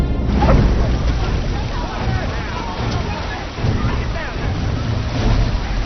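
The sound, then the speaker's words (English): Dense, steady roar of heavy rain pouring down outdoors in New York, loud and continuous throughout, with gusty noise and faint muffled voices buried underneath. “It's pouring out there!”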